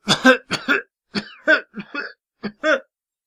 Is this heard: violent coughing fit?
yes